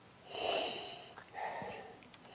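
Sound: sniffing wine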